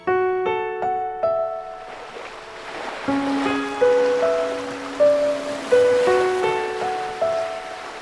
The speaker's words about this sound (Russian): Море спокойное и ослепительно синее, умиротворяюще шумело, шептало, что в мире нет зла, а есть только преломление солнца в воде, игра теней и света, и смерть – часть этой игры.